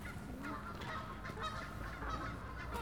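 Crows and sparrows call and chatter while feeding on unsold bakery leftovers, a dense, continuous mix of caws and chirps overlapping steadily with no pauses and no voices.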